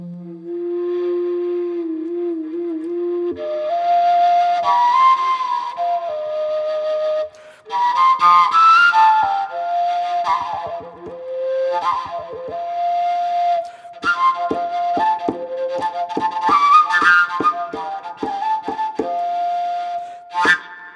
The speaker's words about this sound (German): Also, dann lassen Sie uns die Ihre Obertonflöte doch mal hören. Ja, genau.